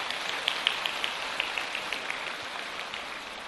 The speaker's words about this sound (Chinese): 让我们再一次用掌声感谢深圳的三位小同修。